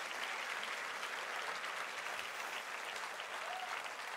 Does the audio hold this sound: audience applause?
yes